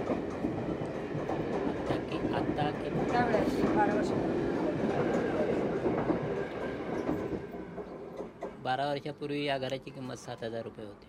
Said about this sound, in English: Yeah. So what's it like living next to trains that go by every 2.5 minutes, and if you sleepwalk, you might never wake up?